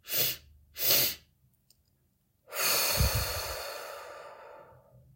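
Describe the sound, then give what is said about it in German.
Two quick, sharp breaths drawn in through the nose during a guided breathing exercise, then a pause and a long, audible exhale that slowly fades away. Nobody speaks. “Die Augen sind geschlossen. Wir atmen zweimal ein.”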